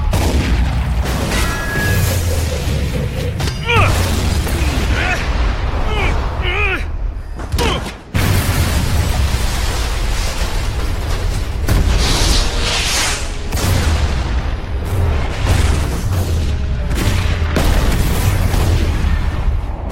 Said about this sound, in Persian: 4 3 2 1. انفجار.